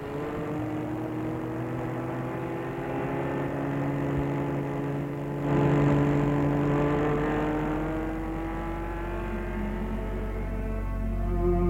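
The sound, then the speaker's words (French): A taxi taken at Place des Terreaux hums steadily from inside the car, a continuous drone with a low rumble whose pitch shifts gently as it drives along. No one speaks. “Il réussit à le mener jusqu'à la place des terreaux et là, ils prennent un taxi.”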